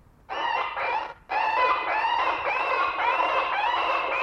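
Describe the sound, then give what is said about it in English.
A bird scarer device blares harsh, squawking bird-like calls at a murmuration of starlings above the Cocklebury roundabout in Swindon, starting with two short bursts and a brief gap before a longer, unbroken stretch of loud, wavering cries. “That's why you play it in random short bursts.”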